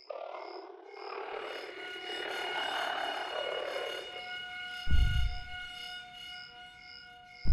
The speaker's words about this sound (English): I know you hear the oxygen alarm.